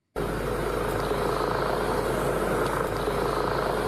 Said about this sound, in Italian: Berlino è in queste ore una città in stato d'assedio. Elicotteri sorvolano il centro della città e il grande parco del Tiergarten.